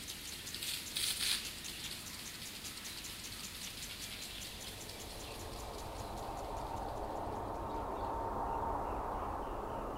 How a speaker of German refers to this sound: Nach 2 Stunden ist das Gefühl des Ausgeliefertseins weg und ich lausche der Nacht. Der Klang der Zikaden prallt in sich überlagernden Rhythmen auf den der Rasensprenger.